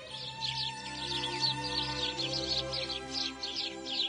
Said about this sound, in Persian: حالا دیگه هوا داشت روشن میشد و گنجشکا آواز دست جمعی اول صبحشونو سر داده بودن.